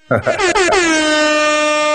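A loud air horn sound effect blasts in a few quick stuttering bursts, then holds one long, steady, brassy tone to the end. No one speaks over it.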